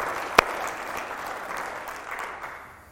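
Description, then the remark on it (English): An audience breaks into steady applause for the love of Jesus, a dense wash of many hands clapping at once, opening with one sharp loud clap before settling into an even patter that slowly fades. “How many will applaud the love of Jesus today with me?”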